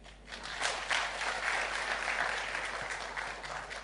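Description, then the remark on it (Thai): An audience applauds steadily in agreement with a speaker, a dense wash of many hands clapping at once that holds a fairly even, moderate loudness for about four seconds with no voices over it. “ท่านหลงกลผมแล้วนะฮะเพราะผมถือว่าที่ท่านปรบมือเนี่ยแบบที่เวลาที่เราเปิดอินเทอร์เน็ตเราเนี่ยไลน์เลยอะไรทั้งหลายแล้วก็บอกว่าเอกรีท่านเอกรีแล้วนะไม่ได้ไลน์นะฮะไม่ใช่ชอบนะผมแปลสัญญาณการปรบมือว่าไม่ใช่ไลน์นะเป็นเอกรีนะก็คือตกลงตามนี้ครับ”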